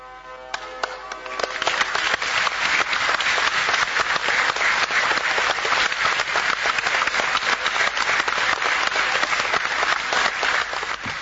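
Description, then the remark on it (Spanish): An audience applauds steadily for the whole stretch, a dense, crackling wash of many hands clapping at once, loud and sustained. It swells in after a brief quieter moment at the start. “A ver, se podía ahí dilucidar qué era lo que se quería expresar en ese aplauso.”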